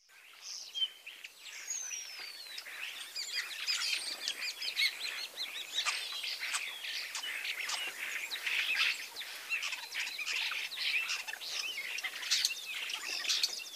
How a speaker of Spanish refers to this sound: El estornino llega también en la primavera. Es muy negro y brilla en otros colores. Escucha su canto.